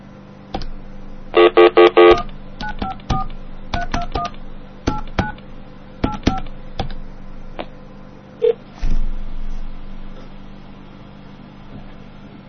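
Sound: telephone dialing tones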